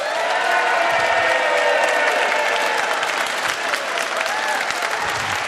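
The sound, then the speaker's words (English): A crowd of people at Melbourne's Immigration Museum claps steadily to open a discussion, a dense, sustained round of applause at even loudness throughout, with faint cheering mixed in and no talking over it. “A heavily rehearsed and contrived round of applause to kick off our discussions here at Melbourne's Immigration Museum.”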